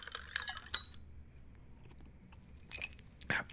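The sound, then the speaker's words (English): Glass clinks ring out at the start, followed by short splashy bursts of whiskey being poured into a glass, with quiet pauses between and no talking. “First, sample the whiskey to check for quality.”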